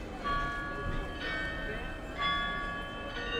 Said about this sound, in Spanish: A las 11, a las 12 y en verano también a las 17, el carrillón cobra vida.